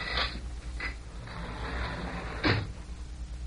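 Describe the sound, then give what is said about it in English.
A door opens as people come inside: a couple of sharp latch clicks, a brief scraping swing, then a solid thump as it settles, with no one speaking over a low room hum. “Hey, they're coming inside. I say, what's going on? Maybe they're coming for us already. No, I don't think so. But someone's outside that door.”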